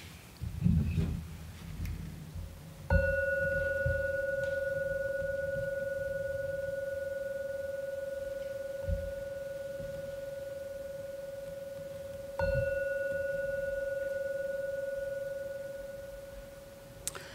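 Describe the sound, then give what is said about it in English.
A gong is struck twice, about nine seconds apart, to signal the end of the period, each strike ringing out in a steady mid-pitched tone that hangs on and fades slowly. Faint rustling comes just before the first strike. “I will ring the gong noise.”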